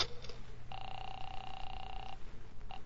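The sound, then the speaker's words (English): A telephone being dialed: a steady electronic tone holds for about a second and a half, then a short second beep follows, all over a low, rumbling background hum. “Let me use your phone.”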